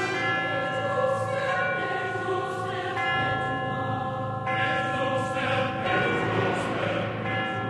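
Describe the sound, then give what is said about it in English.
Resonant chimes toll in a slow alternation between two pitches outlining a tritone, each stroke ringing out and overlapping the next, loud and sustained throughout with no voices. “When you hear those chimes, they're playing those two notes, the two notes outlining a tritone.”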